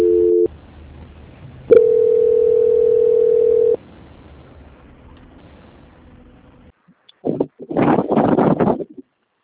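A steady mid-pitched telephone line tone sounds briefly, cuts out, then returns after a click and holds for about two seconds before giving way to faint line hiss and a few muffled bursts, during a call transfer to Banco Santander's quality control department.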